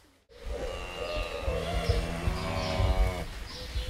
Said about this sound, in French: Alors là, vous êtes au cœur de la maison des vaches, qui s'appelle une stabulation libre. Pourquoi libre? Parce que les vaches, vous voyez, elles ne sont pas attachées, elles font ce qu'elles veulent.